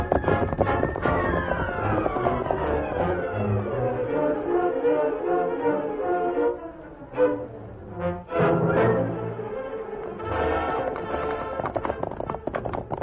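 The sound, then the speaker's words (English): Horses gallop away with quick, rhythmic hoofbeats clip-clopping under loud, sweeping dramatic music that swells and dips before surging again, as horses are driven out toward Gray Ridge in a Lone Ranger radio drama. “You got to drive those horses out right away and get them started to Gray Ridge”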